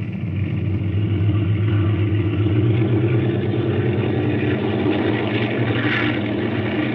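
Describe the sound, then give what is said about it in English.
A steady, loud engine roar fills the whole stretch, deep and rumbling with a faint higher whine: airplane engines at full power as several planes take off from runway 28 at 30-second intervals, with a west wind of 15 miles. “Take off at 30-second intervals.”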